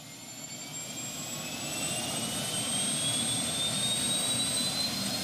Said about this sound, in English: Imagine looking out a helicopter window taking pictures as you're traveling 60 miles an hour and you're only 300 feet over the eastern Aleutian Islands. That's a typical day for the 4-person Shore Zone flight crew.